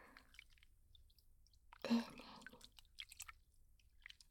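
A short gush of warm water pours as foam is rinsed off, then gives way to scattered soft drips and wet squishing sounds, all fairly quiet and intimate.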